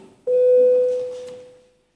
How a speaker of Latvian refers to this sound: Lūdzu zvanu, balsosim par 4. Deputāta Stepaņenko iesniegto priekšlikumu. Lūdzu balsošanas režīmu.